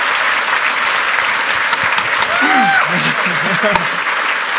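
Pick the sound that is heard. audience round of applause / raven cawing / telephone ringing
audience round of applause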